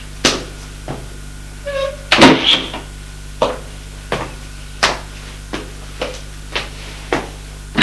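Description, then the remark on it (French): A door is opened with a brief creak and latch rattle, set among a steady series of sharp thuds like footsteps or knocks. No one speaks. “Il ouvre une porte.”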